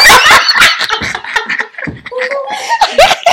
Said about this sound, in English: With the barking, yes. Because the dogs have a testimony, too.